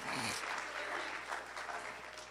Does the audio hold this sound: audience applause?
yes